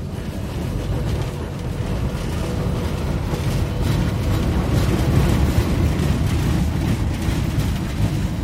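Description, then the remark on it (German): A tram in Kramatorsk, running to the Novokramatorsk Machine-Building Plant, rumbles along with a steady, heavy low-pitched drone and faint rattling at a fairly even loudness, with no voices; it stops at the machine builders' stop. “Dorthin fährt die Straßenbahn. Sie hält an der Haltestelle des Maschinenbauers.”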